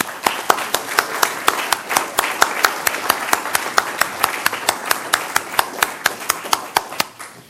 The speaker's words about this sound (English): and I would like to thank our panel. You've been great, and good insight and good information. So if I could ask all of you to give them a round of applause.